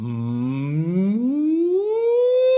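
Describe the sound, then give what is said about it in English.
A steady hummed tone, sung as a vocal exercise with the lips closed, starts low, holds briefly, then slides smoothly and continuously upward in pitch, moderately loud, with no words spoken. “So hum, we'll go down, then come up.”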